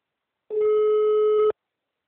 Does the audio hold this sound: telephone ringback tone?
yes